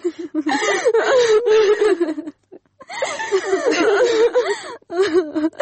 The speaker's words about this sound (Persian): بس از دگه گریه نکو